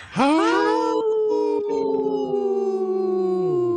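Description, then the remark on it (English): Three people howl together in imitation of wolves, long rising and sustained overlapping tones lasting several seconds, loud with no talking. “Wow, that's a good healthy howl by us three.”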